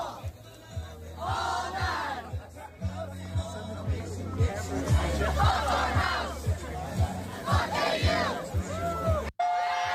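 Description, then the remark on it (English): A large crowd of thousands outside a frat house, waiting for Trump amid Trump signs, cheers and yells continuously over a steady, rhythmic thumping beat, the roar swelling in waves before cutting off abruptly near the end. “Trump signs everywhere, the cheering, the applause, the love, the patriotism.”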